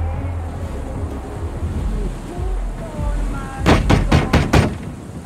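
Heavy banging on the front door of a property from its porch: five quick, loud thuds in a rapid burst near the end, after a stretch of outdoor wind rumble and faint muffled voices.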